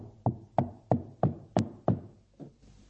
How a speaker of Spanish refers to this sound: Lo aterrador de la Odisea, escúchenme bien lo que voy a decir, es que Cristo mismo se describe como uno que está afuera, llamando y golpeando la puerta.